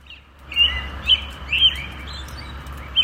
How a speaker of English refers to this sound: That is an American robin recorded earlier today outside our studios here in Interlochen.